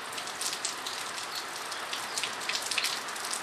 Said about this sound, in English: For weeks, the rain has been falling and the creeks have been swelling. How wet is it? Very wet, extremely wet.